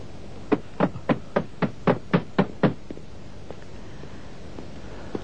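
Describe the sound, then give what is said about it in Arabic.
Heavy, rapid pounding on a door as men try to break it down: about nine hard, evenly spaced blows in quick succession, loud, then a sudden stop into near silence. “يا إلهي، سيكسرون الباب.”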